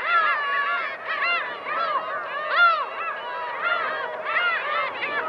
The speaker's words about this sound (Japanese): そこから北に16キロ、隣町渡里町鳥の海は太平洋に面した汽水湖です。おびただしい数のカモメたち、